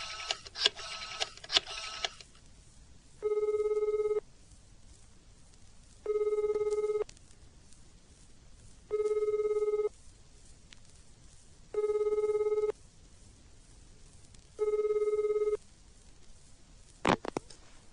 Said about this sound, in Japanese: その日、思い余ってエリコは父の会社に電話を入れてみました。